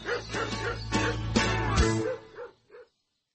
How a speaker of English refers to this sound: That wasn't a bear. It was a dog.